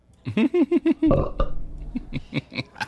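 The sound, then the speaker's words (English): A loud belch rumbles out for about half a second, framed by a run of short, choppy voiced grunts before and after it. “Was that a belch, my love?”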